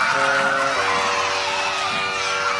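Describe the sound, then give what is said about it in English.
A large crowd at a game of catch yells and cheers in a dense, continuous roar, loud and sustained throughout with overlapping shouts and whoops, as if filling a stadium. “What is everyone yelling?”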